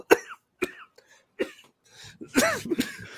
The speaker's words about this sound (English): made me start coughing.